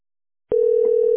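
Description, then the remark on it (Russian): A steady telephone tone starts abruptly after half a second of silence and holds at a constant pitch, the line tone heard after the other party hangs up the phone. Faint background noise runs beneath it. “Еще эти падлы телефон бросают.”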